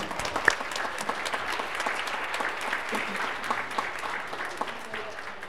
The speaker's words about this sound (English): Let us welcome the newly baptized. We welcome you into the body of Christ and into the mission we share. So I think it's appropriate to welcome them not only with that, but with a round of applause.